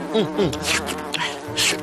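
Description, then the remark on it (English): Insects and flies buzzing steadily, a dense droning hum with wavering, rising and falling pitch and bright bursts of hiss, fairly loud with no voices. “While he was sitting there, there were so many insects and flies and you name them.”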